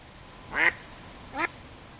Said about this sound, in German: Dabei wirkt Vollsmose auf den ersten Blick ganz idyllisch. Riesige Grünflächen umgeben die Wohnblocks, Enten schnattern auf dem Teich